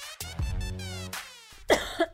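A person gives a nervous cough, a rough, throaty hack followed by a few shorter, sharper coughs and some throat clearing, with no talking.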